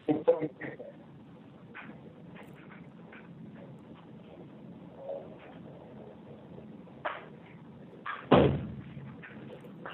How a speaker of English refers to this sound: We heard a door slam.